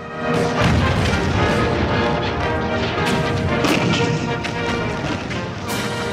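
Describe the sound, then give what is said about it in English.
Continuous rumbling barrage of cannon fire and shell blasts from a seven-day artillery bombardment of German positions, shown in black-and-white film, with sharp booming impacts at roughly 0.5, 3 and 5.7 seconds standing out over a dense, loud roar of explosions. “Black and white film of cannons being fired and explosions.”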